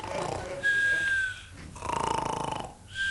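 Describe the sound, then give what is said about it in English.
A person snores twice in a row from inside a filing cabinet drawer in a records office, each long rasping breath carrying a faint whistling tone, fairly loud with no talking. “I thought I heard someone snoring.”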